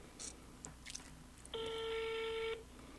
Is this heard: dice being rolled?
no